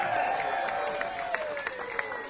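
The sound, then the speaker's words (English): A concert audience at Riddim applauds a band in a steady, dense wash of clapping, with sharper claps popping out and shouts or cheers rising over the noise throughout. “the applause you gave that band for waiting so long to get on that stage, that was weak as hell.”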